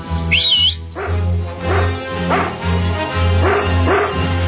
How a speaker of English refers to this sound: That's my dog, Order. He's trained to sniff out explosives.